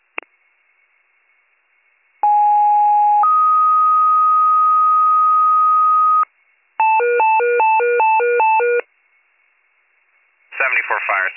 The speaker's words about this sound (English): 94 fire, disregard the tones.